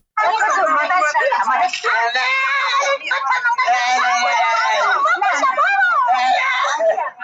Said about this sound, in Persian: فریاد نوجوانی که آه و نالش به گوش افراد منصوب به پلیس ایران نرسید. ویدیویی که تازه در شبکه‌های اجتماعی نشر شده و نشان می‌دهد یک نوجوان در جاده از سوی پلیس ایران لتوکوب و شکنجه می‌شود.